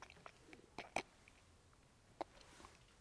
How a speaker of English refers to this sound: Excuse me, got a little bit of a cold working in my body, so I realize it's edifying when you hear me take a big gulp on my microphone, which you probably didn't even hear.